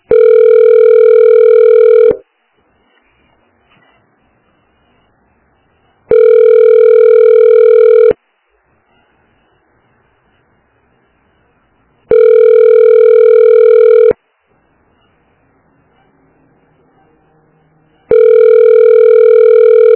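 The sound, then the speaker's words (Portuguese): A telephone ringback tone heard while waiting on hold after calling a health unit, repeating four times, each steady buzzing beep lasting about two seconds with roughly four seconds of silence between, clear and fairly loud with no voices. “Você ligou para Unidade de Saúde Vendaval. Aguarde para ser atendido.”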